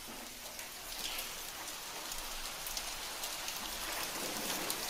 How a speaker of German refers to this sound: Boah, es hagelt, Alter. Boah, ey.